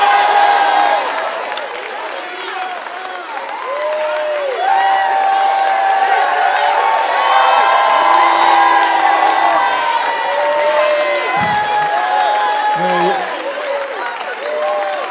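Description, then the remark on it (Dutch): A large audience cheers and applauds loudly and continuously, with whoops and shouting voices mixed into the sustained roar throughout. “Ik kom in de problemen door jullie gejuich.”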